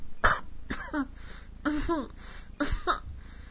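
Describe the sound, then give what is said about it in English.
A fairly loud voice coughs and sputters in three rough bursts spaced about a second apart, with throaty gagging and wet, choked sounds between them, as a woman chokes on fluid filling her mouth and throat. “I speed up and intensify your pleasuring until you can't stop it, and erupt violently in my mouth, filling my throat with your load, making me cough and sputter.”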